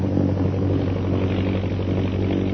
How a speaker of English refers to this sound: And the plane's heading south, Lil. Looks as though they're going back to the pass.